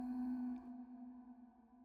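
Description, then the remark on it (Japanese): A church bell tolls once to tell the hour at dusk, its low, humming tone ringing steadily and then slowly fading, with faint higher overtones lingering above it. No voices are heard. “どこからか教会の鐘の音が聞こえてくる。”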